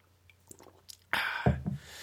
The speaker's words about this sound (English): I'm going to take a quick sip of water.